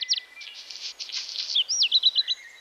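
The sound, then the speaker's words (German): Songbirds, such as blackbirds, great tits and house sparrows, sing in a lively morning chorus, with rapid high chirps, trills and whistled phrases overlapping and repeating quickly, clear with no talking. “Gemeinsam mit den hier gebliebenen wie der Amsel, der Kohlmeise oder dem Haussperling geben sie vor allem am Morgen alles, was ihre kleine Vogelkehle hergibt.”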